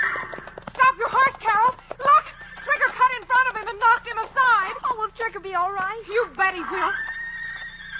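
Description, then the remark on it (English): A huge red stallion neighs and whinnies loudly in long, wavering cries while protecting his band of mares, over a rapid patter of galloping hooves pounding the ground, intense for several seconds. “Only one animal in the world makes a sound like that. A stallion when he's protecting his band of mares.”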